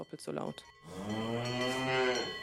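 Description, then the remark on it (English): A few brief cowbell clanks come first, then a cow wearing a bell lets out one long, loud, drawn-out moo that swells and fades, with no voices. “initial findings suggest cows wearing bells eat less and sleep less, but her suggestion that bells be abandoned in favour of GPS technology and cows with electronic chips has provoked outrage, and not just from farmers.”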